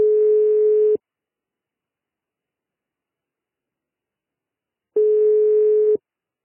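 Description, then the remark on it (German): A telephone line tone: two steady, one-second electronic beeps separated by about four seconds of silence, clear and fairly loud with no voices. “Hallo, hier nach für dich übers Telefon.”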